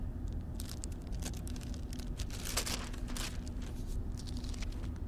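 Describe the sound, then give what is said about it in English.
Papers rustle and shuffle continuously as someone searches through them for one sheet, with irregular crisp crinkles and soft slides as sheets are moved about, quiet, over a low steady hum with no talking. “I got so much junk here, I can't even find the piece of paper I want with the right reference on it.”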